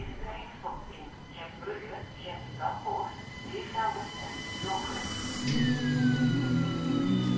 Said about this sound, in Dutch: Gent Sint-Pieters. Over 2 minuten vertrekt de S53. De laatste trein van Gent Sint-Pieters naar Beervelde.